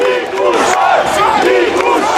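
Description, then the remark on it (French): A large crowd of supporters cheers and shouts loudly and continuously, many voices rising and falling together in overlapping waves of enthusiastic acclaim, celebrating Nicu Jordan's election win in the centre of the Romanian capital as he walks to his headquarters. “Acclamé par la foule, Nicu Jordan parcourt à pied et tout sourire les quelques mètres qui le séparent de son quartier général au parc Shimjidju où l'attendent ses supporters.”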